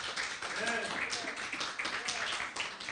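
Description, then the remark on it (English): A crowd claps together as a hand clap of praise to God, in a steady, dense wash of applause for a few seconds, with scattered voices calling out and cheering over the clapping. “Come on, somebody, give him a hand clap of praise.”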